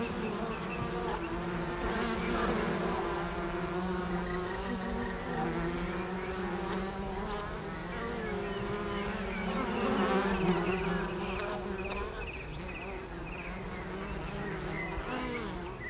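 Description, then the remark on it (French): A dense, continuous buzzing of many honeybees swarming around a beekeeper's hive in Cantal, France, steady, with individual bees droning past now and then. No one speaks. “Mais l'abeille, aujourd'hui, sans l'apiculteur, il n'y en a plus, quoi.”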